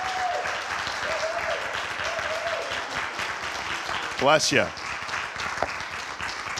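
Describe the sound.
Steady applause from a morning church audience welcoming a guest speaker fills the whole stretch, a dense crackle of many hands clapping, with a brief sweeping squeal and a short spoken remark cutting in near the end.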